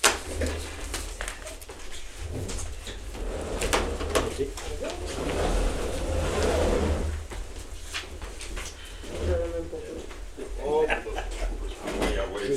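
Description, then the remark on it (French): Chairs scrape and thump across a hard floor as people at a meeting turn them around to face a projection screen, several shifted one after another, with indistinct voices murmuring underneath. “Oh, vous auriez pu retourner les chaises, c'est bon pareil.”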